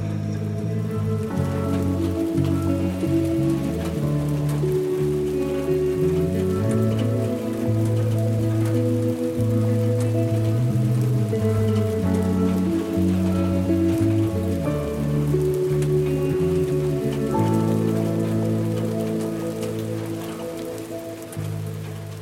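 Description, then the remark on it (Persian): Steady rain patters on a surface in a continuous hiss, heard alongside low, sustained tonal notes for the whole stretch, easing slightly near the end. No one speaks. “یادمه اون روزی که میخواستم بهش بگم خوش اومدی به زندگیم، باران میومد.”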